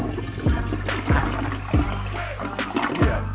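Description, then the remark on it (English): A toilet flushes in a loud rush of churning, splashing water, with gurgling surges pulsing roughly every half second and no one talking. “And I think he deserves a royal flush for that shit.”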